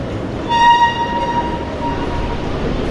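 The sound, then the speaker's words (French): Steady low rumble of a train moving through Charles de Gaulle–Étoile metro station at 8:30 in the morning, with a bright, high tonal squeal or horn rising half a second in and fading into the continuous rolling noise. “Et là, juste à côté de la sortie du métro, des portes battantes”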